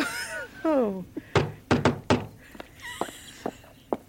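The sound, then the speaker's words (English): A quick series of four sharp knocks on a door, fairly loud, with a brief vocal sound just before and a few softer taps and clicks afterward. “Oh. Someone at the door.”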